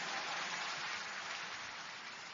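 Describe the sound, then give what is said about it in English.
A church audience claps for the Lord together in a dense, steady wash of applause that never breaks into distinct beats and holds at an even level for the whole stretch, with no voices over it. “Give the Lord a big clap of hand as you take your seat.”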